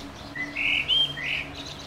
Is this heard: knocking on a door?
no